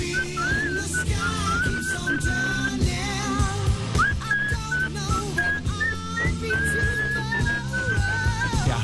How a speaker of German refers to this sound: Ist richtig wunderbar, auch mit deinem Gepfeife dabei. Der Song ist von Ende der 70er, aus dem Jahr 1978.